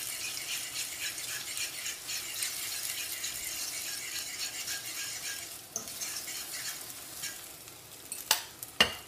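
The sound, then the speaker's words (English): Steady, crackling sizzle of a drip of egg frying in hot oil, dropped in to test whether the oil is hot enough, fairly loud throughout, with a couple of sharp utensil clicks near the end. No one speaks. “And in China, when I was young, we have a way to try to see the oil is hot enough or not. I use a drip of egg.”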